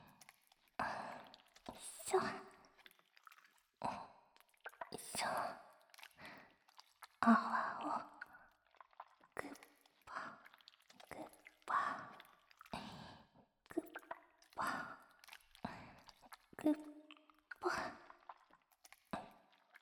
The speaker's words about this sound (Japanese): よく泡立てて、ぐっちゅぐっちゅ、くっぽくっぽ、ぐっちゅぐっちゅ、ぐっちゅぐっちゅ。タオルをもぎゅもぎゅ。